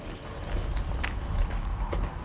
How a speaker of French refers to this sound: Il y a une vache qui se promène là.